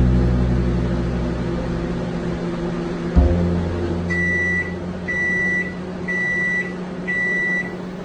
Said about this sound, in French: Les rayons noirs bioatomiques du micro-ondes vont te libérer.